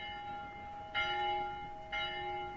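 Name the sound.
town hall bell ringing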